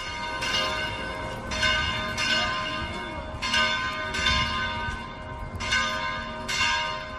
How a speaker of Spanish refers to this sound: Tras conocerse su elección, las campanas de las catedrales repicaban en señal de júbilo.